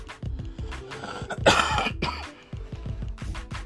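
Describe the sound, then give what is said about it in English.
A harsh, phlegmy cigarette smoker's cough into the mic, several rough hacking bursts with a raspy throat-clearing in the middle, then trailing off into a few lighter coughs. “That was a cigarette cough, not a Delta cough.”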